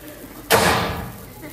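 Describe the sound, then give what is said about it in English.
A door slams shut once, loud, with a sharp impact that rings out and fades over about a second. “We need a door slam.”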